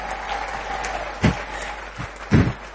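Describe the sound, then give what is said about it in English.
An audience applauds in a steady, crackling patter, with a couple of louder bursts of claps standing out near the end. Nobody speaks. “Ladies, I think we need to give them another round of applause.”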